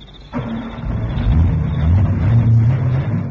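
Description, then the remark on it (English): A car engine turns over and catches near the start, then revs steadily with rising and falling pitch, loud, with no voices. “Starts like a bird.”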